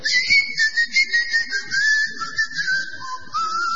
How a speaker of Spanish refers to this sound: Usted llega a la isla de Tracoda y oye los silbidos.